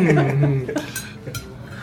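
Knives and forks clink against plates in a few sharp, bright metallic taps spread irregularly across the moment, with a low murmuring voice underneath at the start.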